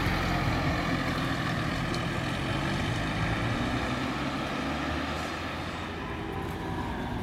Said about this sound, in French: Et le passage d'un bus.